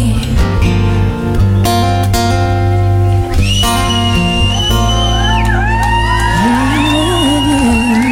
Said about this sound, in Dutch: Even het applaus laten doorlopen, want dat verdient ook een applaus natuurlijk